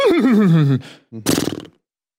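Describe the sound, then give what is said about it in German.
A loud whinny, likely a human voice imitating a horse, with a wavering, descending call followed after a brief pause by a short, breathy, rattling snort. “Das wäre das Pferd und der Springer.”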